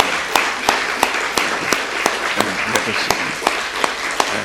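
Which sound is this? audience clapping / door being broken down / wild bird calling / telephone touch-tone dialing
audience clapping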